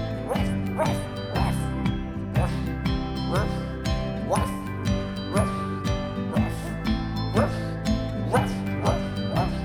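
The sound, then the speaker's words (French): Short, yappy barks from a small dog repeat in time with a bouncy song, landing on the beat over steady drums and bright backing music, loud and up front. “a un petit chien. Il est waf, il est ouf”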